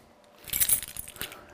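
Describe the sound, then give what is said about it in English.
A bunch of keys jangles in a short burst of bright metallic clinks and rattles, lasting under a second, with no voices; the bunch holds a disc and keys for a building and a front door. “I think it's that key, will get me into my front door. I've actually got three keys like that.”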